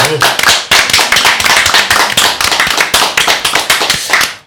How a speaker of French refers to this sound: Toutes les félicitations. On peut encore l'applaudir, s'il vous plaît. Merci beaucoup.